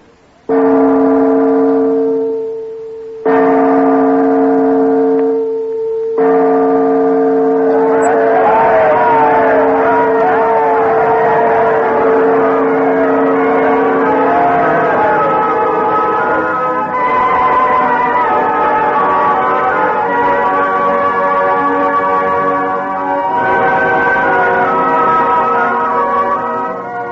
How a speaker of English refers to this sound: Oh, they're making signals from the belfry. The bell must be in place.